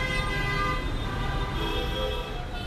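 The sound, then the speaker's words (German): Jeepney horns blare in sustained tones as drivers and assistants honk to draw attention, over a dense rumble of street traffic in a Philippine megacity, with jeepneys rattling past with roaring exhausts and steady engine noise filling the background throughout. “Fahrer und Assistent machen mit Hupen und Rufen auf sich aufmerksam.”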